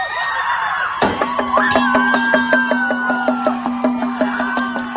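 A crowd in Los Angeles cheers and shouts loudly, with raised voices overlapping. After a sudden burst about a second in, steady rhythmic claps or beats run beneath the din.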